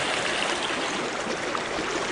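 creek water flowing

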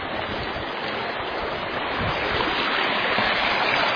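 flowing creek water

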